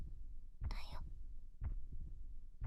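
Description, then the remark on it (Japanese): Muffled, low human heartbeat thumps, heard against the left side of the chest, pulse slowly, about once a second, with a soft breathy whisper rising briefly over the first beat. “心臓の音聞こえてるかな。姫のために私が生きてるって証拠の音。”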